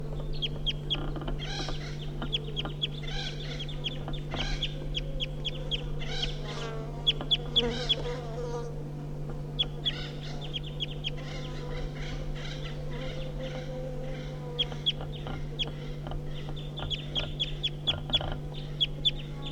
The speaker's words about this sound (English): So recording the wild birds giving flight calls now. It's 9 o'clock.